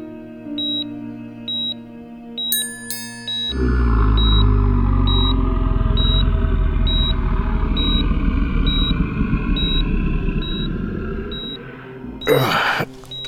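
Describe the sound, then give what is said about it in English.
A truck engine rumbles into a loud, steady idle, while a faint electronic beep repeats at a regular pace throughout; a short harsh burst cuts in near the end. “He opened his eyes, looking out the window to the flight line for his battered Kiowa, but there was no sign of the truck he'd thought he'd heard.”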